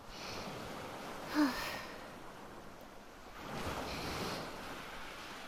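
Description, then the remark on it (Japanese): Ocean waves roll onto the shore in a steady hiss, with two fuller washes of surf swelling up and fading back; no one speaks. “本物の海を見たいって言ったのも私ですから、頑張ります。”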